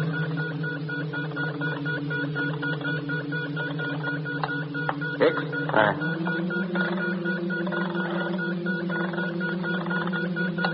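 A telephone being dialed over a steady mechanical hum: rapid repeating clicks run throughout, a couple of sharper clacks land midway, and the droning tone then shifts slightly in pitch.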